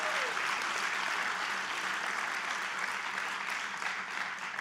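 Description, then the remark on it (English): A church audience claps steadily and loudly throughout, applauding for Jesus, a dense, even wash of many hands clapping together, with no speech over it. “Come on, let's give Jesus, man, I've told you we're going to clap a lot today.”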